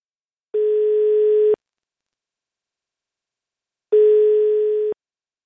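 Two long, steady ringback beeps from a phone call being placed to an expert, each lasting about a second with a long silent pause between them, clear and fairly loud with no voices.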